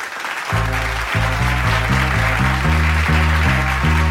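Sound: audience applause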